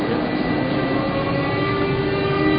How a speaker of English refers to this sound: He can manipulate giant blowers to move air through the treatment system and stimulate a process called aerobic digestion. Okay. Now some blowers are starting.